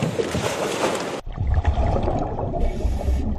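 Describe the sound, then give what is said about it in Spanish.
A motor launch carrying Civil Guard officers during a training exercise moves across water: a burst of broad rushing spray gives way to a low churning rumble with splashing and gurgling, steady, with no one talking. “Pues precisamente en esa lancha, junto a Garbiñe, estaba el agente Francisco Molina”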